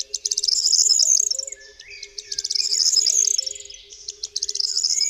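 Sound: corn bunting song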